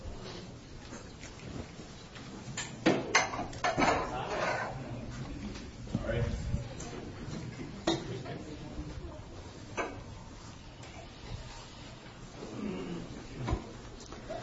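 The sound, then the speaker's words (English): Chairs scrape and clunk as they're shifted out of the way and set down, a series of irregular knocks and thumps, with murmuring voices in the background. “Somebody, if you would, come on in here and let's take these chairs and put them somewhere.”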